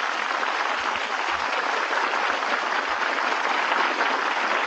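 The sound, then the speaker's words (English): Sustained audience applause greeting master of ceremonies George Jessel, a dense steady roar of many hands clapping at an even, loud level throughout with no voices on top. “Your applause is very gratifying to me.”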